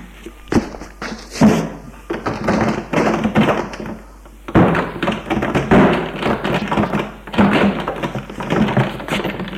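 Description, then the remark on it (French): Repeated heavy thumps and knocks against a building's ground-floor door that will not open, in several bursts with brief pauses, fairly loud, with rattling between impacts as a man pushes and bangs on it and tries his keys. “Il ne peut l'ouvrir. Merde ! Il pousse, cogne. Essaye avec ses clés.”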